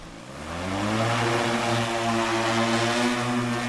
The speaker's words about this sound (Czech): takže dron je připraven ke vzletu. Ano, takže uděláme pár kroků zpátky a můžeme vzlétnout.